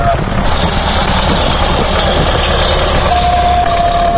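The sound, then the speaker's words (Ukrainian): Tractors and chainsaws roar steadily and loudly throughout as workers fell and stack trees over about 4 hectares of an old monastery forest near the village of Lisnyky, Kyiv region, with a thin, sustained motor whine rising over the din near the end. “Тут мав бути заказник, але зараз ревуть трактори і бензопили.”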